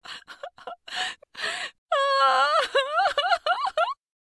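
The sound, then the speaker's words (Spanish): A woman sobs in short, breathy gasps, then breaks into a long, wavering wail that dissolves into choked sobs. Loud, with no other sounds. “Yo también lo siento, dijo la mujer, y siguió llorando.”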